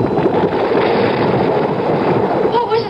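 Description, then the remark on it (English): A loud, continuous rumbling cascade of falling stones and gravel inside a cave, dislodged by feet on the cave roof and piling up in front of the entrance; a dense gritty clatter that pours steadily and unbroken, with no pauses. “I struggled to stay where I was, and my feet dislodged a shower of stones.”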